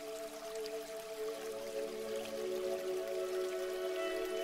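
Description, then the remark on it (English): A waterfall rushes and splashes in a steady, unbroken wash of water, with a soft sustained hum running underneath it throughout. “Being in this moment, connected to your breath, connected to the feeling of revitalization that comes from this waterfall.”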